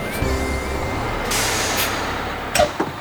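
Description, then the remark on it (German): A bus idles at a bus stop by the sea with a low engine rumble, releasing several short, sharp hisses of air brakes; no one speaks. “trafen sich die drei Fragezeichen am nächsten Tag wieder an der Bushaltestelle am Meer”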